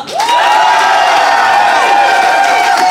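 A studio audience bursts into loud, sustained cheering and applause to vote for one side of a debate, with whoops and shouts rising over steady clapping for the full few seconds, energetic.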